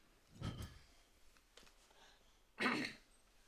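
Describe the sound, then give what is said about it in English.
Someone suffering from a cold clears their throat twice with a pause in between: first a low, rumbling rasp, then a louder, harsher and higher-pitched burst, with faint breathy sounds in the gap. “You know, it's funny, when you clear your throat, you sound like you're going through puberty or something.”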